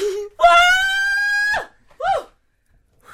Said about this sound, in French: Je sais pas, je pleure, j'ai crié, j'ai envie de crier, je suis désolée, mais merci, oui.